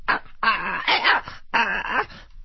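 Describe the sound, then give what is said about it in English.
A person imitates an arthritic poodle dancing for its food, making three drawn-out, nasal whimpering cries like a whining dog in quick succession, pitch wavering up and down, fairly loud, with no other talking. “He will do the arthritic poodle dancing for its food.”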